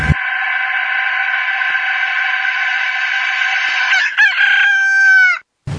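A single long rooster crow rings out loud, holding steady for several seconds before rising into a strained final flourish and cutting off abruptly. No one speaks over it.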